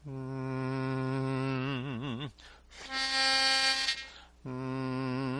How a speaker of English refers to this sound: This is what you should be singing. Do you hear that in the pitch pipe?